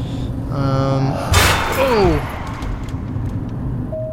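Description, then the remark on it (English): Steady car traffic rumble inside a road tunnel, with a loud whooshing pass around the middle and some faint tonal sounds mixed in. The overall sound is dense and reverberant, with the traffic echoing through the tunnel. “Yeah, we are inside of a tunnel now. So things are gonna echo.”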